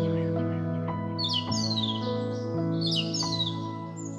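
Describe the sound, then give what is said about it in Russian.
Bright morning bird chirps and twittering trills burst out in two clusters at early-morning sunrise over a misty meadow, set against a steady, sustained musical drone with soft low tones underneath. “Ты слышишь утренних птиц.”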